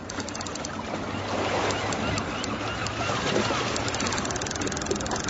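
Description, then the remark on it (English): A fishing boat's engine idles on the water with a steady low rumble, set against a constant wash of splashing and lapping water, fairly loud throughout. “Been out in your boat fishing lately? Close your eyes. We'll take you.”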